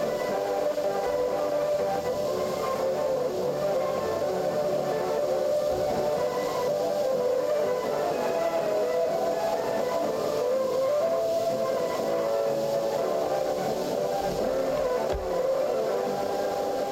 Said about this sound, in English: You hear the music and in the background you hear a Morse signal. Ti-ti-ti-ta-ta-ti, that means 4N. So each jamming station which jammed the Polish service of Radio Free Europe starting from 1977.